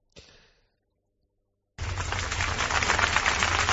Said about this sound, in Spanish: Esto que están oyendo son los aplausos con los que ayer era despedida la duquesa de Alba.